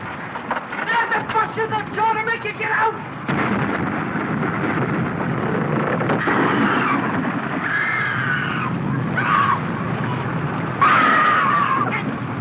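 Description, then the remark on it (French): A thunderstorm roars with steady, heavy rain and rumbling noise while a woman's high, wavering screams cut through again and again, loud and desperate over the din. It is the night storm scene of the 1932 film Freaks, where the Freaks attack the trapeze artist in her caravan. “Les Freaks se vengent en attaquant de nuit et sous l'orage la belle trapéziste dans sa roulotte.”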